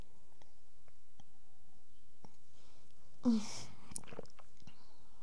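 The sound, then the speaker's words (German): Someone takes a quiet sip of a drink: soft mouth clicks, then a brief slurp and swallow with a breathy exhale, followed by a few faint smacks. No one speaks. “Ich muss mal kurz einen Schluck trinken.”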